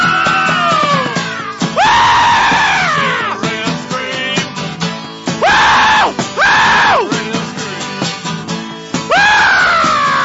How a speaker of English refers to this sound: when you let out that scream and the hat flies off. Oh, yeah. Remember that episode? That was pretty amazing. Where'd you learn to do that?